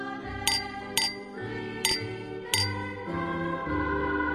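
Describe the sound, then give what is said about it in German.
Glasses clink together four times in quick succession in a Christmas toast, bright ringing taps against a soft background of music, fairly crisp. “In der Zwischenzeit hatte der Sohn die Gläser gefüllt und hielt ein Glas hoch.”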